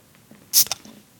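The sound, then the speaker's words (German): A Heineken beer bottle cracks open with a short, bright hiss of escaping gas, followed by a second quick fizzing burst and a faint clink, over a quiet background. “Das ist ein gutes Zischen.”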